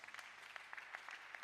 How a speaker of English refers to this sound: Clap for Jesus.